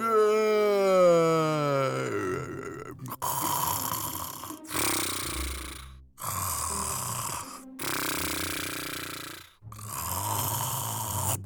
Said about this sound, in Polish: Wilk chrapał tak głośno, że usłyszał go myśliwy, który właśnie przechodził. Myśliwy pomyślał, że to pewnie babcia aż tak głośno chrapie. Babcia jakoś dziwnie chrapie.